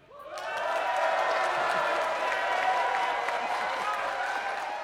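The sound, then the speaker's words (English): A large festival crowd by the River Clyde, gathered for music on World on 3 during the final weekend of the Games, with festival flags hanging in hardly any wind, breaks into loud, sustained applause and cheering, a dense wash of clapping with voices shouting and whooping, starting abruptly and holding steady throughout. “But there's a mighty crowd of people in front who've shown up for the music that we've got in store for you tonight on World on 3.”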